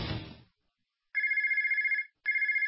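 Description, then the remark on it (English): A telephone rings with a steady electronic trill, two loud bursts separated by a short pause, following a brief low rumble at the start. “If you're in a service business, that's money ringing in your ears.”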